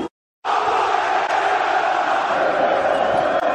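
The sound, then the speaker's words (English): A huge arena crowd, urged by Conor McGregor on a count of three, erupts after a brief silence in a loud, sustained scream of "f*** Floyd Mayweather", a dense roar of many voices that holds steady for about three seconds. “On the count of three, I want everyone in this arena to scream at the top of your lungs, f*** Floyd Mayweather.”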